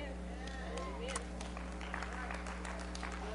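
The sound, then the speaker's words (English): Three scattered, hearty claps from an audience, brief, over a steady low hum and faint room murmur. “Thank you for that three hearty claps.”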